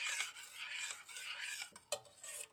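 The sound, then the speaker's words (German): Continuous wet scraping and swishing as a thick, jelly-like homemade laundry detergent is stirred thoroughly before being poured into a jar, with a few sharper clinks of the utensil against the container, no voices. “Ich werde es jetzt noch einmal komplett durchrühren und dann einfach mal ins Glas abfüllen”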